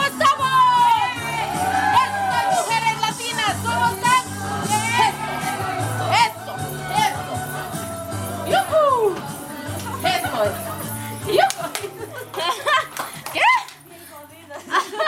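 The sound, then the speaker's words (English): A group of women in a Women in Movement exercise class holler and whoop, most panting hard, over loud, steady, thumping workout music, with voices rising and falling throughout. “Most of the class is panting too hard to respond, but one woman hollers, "We're screwed."”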